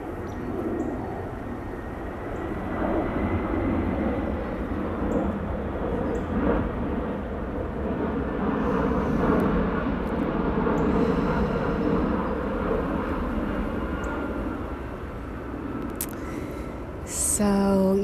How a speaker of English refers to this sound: And of course, I am in nature, and it's a windy day, and here comes my friend at the airplane, of course.